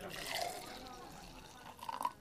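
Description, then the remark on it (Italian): Sparkling wine (spumante) pours into glasses for a toast at a birthday celebration, a brief bubbly, splashing fill with a faint fizz, while a voice calls out over it. “Facciamo un brindisi con il tuo spumante?”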